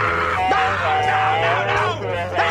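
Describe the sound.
A man screams in agony in long, strained wails whose pitch rises and falls, set against a steady low hum and a murmur of background voices.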